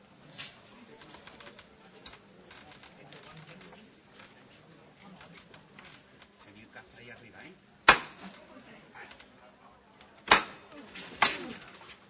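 Three sharp, loud hammer knocks ring out: one alone, then two closer together after a pause. A low, steady murmur of voices and background bustle runs underneath throughout.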